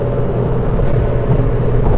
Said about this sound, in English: But there were some questions in my survey about the sound quality from inside the cab. Well, this is it. And this is what people hear on my phone when I'm talking to them. It's kind of loud.